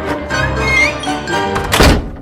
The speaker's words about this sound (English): Gotta go. The concert hall doors are about to close. See you next time.